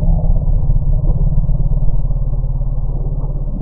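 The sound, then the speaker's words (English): An elephant's alarm rumble given in response to bees: a deep, steady, harmonic growl that holds at a fairly loud level for a few seconds, with a slight pulsing texture and no voices. “but the researchers removed some key acoustical features in it that they think were specific to the bee response, only a couple of the elephant families fled.”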